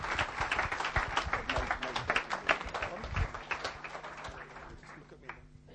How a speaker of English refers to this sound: Give him a clap as he comes to speak to us.